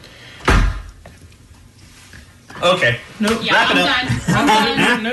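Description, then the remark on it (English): A heavy door slams shut inside a room with one loud, booming impact that reverberates briefly, followed by a quiet pause before people start talking. “It was really, really loud inside that room when that door slammed.”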